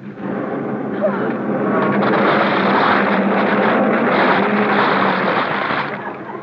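A car motor runs steadily and loudly, a dense, rumbling roar with a low droning hum that holds for several seconds before easing slightly at the end.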